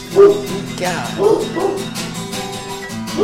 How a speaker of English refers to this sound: that dog bark is fierce. Listen as the shock of the sound waves pierce. That dog's fierce.